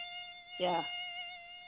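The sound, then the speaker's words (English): A voice imitates a mosquito with a thin, steady, high-pitched whine held for nearly two seconds, briefly interrupted midway by a short voiced burst. It is moderately loud. “The love mosquito. I'm going to bite you.”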